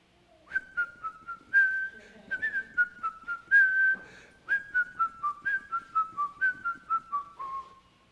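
A person whistles a bright, bouncy melody, a string of short pitched notes in a steady rhythm lasting several seconds, with no talking.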